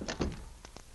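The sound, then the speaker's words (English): A door swings shut with a soft scrape and a dull thunk, followed a moment later by two sharp metallic clicks of a lock being turned. No voices. “Now, come on, shut the door and lock it.”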